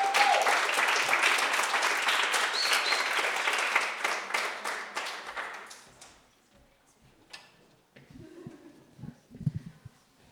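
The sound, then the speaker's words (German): A crowd at an afternoon reading event applauds the final reader of the afternoon with dense, loud clapping that continues steadily for several seconds, then fades out; afterward a few quiet thumps and faint rustling follow. “Riesengroßen Applaus und nochmal 5 Minuten Aufmerksamkeit für den letzten Text des heutigen Nachmittags.”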